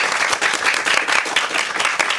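An audience applauds steadily after singers performed Romeo's aria from Bellini's opera I Capuleti e i Montecchi, a dense, even wash of many hands clapping at a consistent, fairly loud level with no voices standing out.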